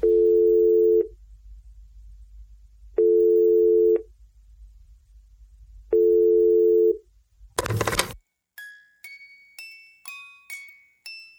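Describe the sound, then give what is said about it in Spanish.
A telephone ringback tone sounds three times, long steady buzzes with pauses between, then a sharp clatter as the line picks up, followed by a quick run of bright, ringing chime-like notes. “hemos conseguido el teléfono de Brad Pitt. ¿Puede ponerlo? Va, venga, se lo pongo.”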